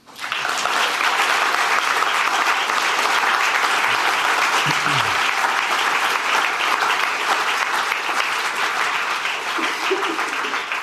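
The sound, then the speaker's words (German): A large audience applauds steadily for about ten seconds after a speaker finishes a talk about faith in God, a dense, even wash of many hands clapping at once, loud and sustained without pause, with a few faint voices beneath. “Jetzt dürft ihr klatschen.”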